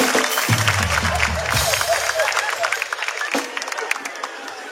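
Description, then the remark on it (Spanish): A crowd applauds loudly and steadily for several seconds, a dense wash of clapping with some cheering mixed in and a brief low voice rumbling underneath near the start. “Un aplauso para ellos. Fuerte”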